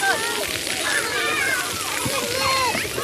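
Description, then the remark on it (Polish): Children's splashing and sloshing water fill the scene at an outdoor water playground in Stalowa Wola with ankle-deep water, with bright high-pitched kids' voices calling out over a steady, busy wash of water play. “Wodny plac zabaw Stalowej Woli nie jest typowo obiektem basenowym.”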